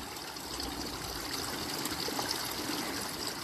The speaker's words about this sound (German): Lass dich mitnehmen vom Fluss des Wassers.